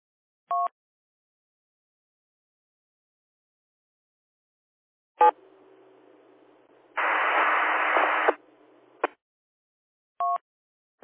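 Short two-tone electronic beeps bracket a stretch of ham radio channel noise during an amateur radio net: faint hiss, then a loud, harsh burst of band-limited atmospheric static lasting about a second, with no intelligible voice coming through.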